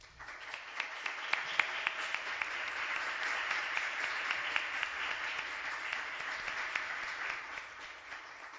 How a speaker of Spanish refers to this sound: así que para él va dedicado este programa y por favor les pido un fuerte aplauso para él.